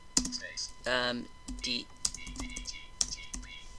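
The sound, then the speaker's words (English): Computer keyboard typing: a handful of sharp, irregularly spaced key clicks, fairly loud, interspersed with warbling tonal electronic sounds, as someone types the command ENT (enter) to enter a ship in a game. “We're going to enter in one of my ships called Debris or Not Debris, by typing ENT.”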